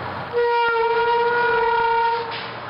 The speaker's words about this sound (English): Okay, stand here at the bus stop. And here comes a bus.